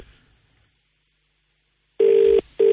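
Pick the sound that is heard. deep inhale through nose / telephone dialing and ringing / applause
telephone dialing and ringing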